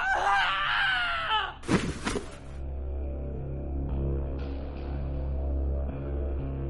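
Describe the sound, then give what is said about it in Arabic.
A loud, piercing, long scream rings out for over a second as a boy falls from the third floor into a stairwell, then cuts off into a sharp, noisy crash, leaving a steady low rumble behind with no talking. “سمعت صرخة طويلة مجلجلة، جريت بره مكتبي أشوف في إيه، لقيت صويت وهستيريا”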